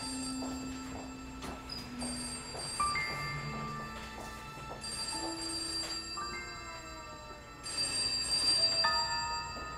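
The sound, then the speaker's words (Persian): A telephone rings insistently at a steady, moderate level, its electronic tones layered with faint clicks and a soft hum of background noise, with no one speaking. “یکی این تلفن رو جواب.”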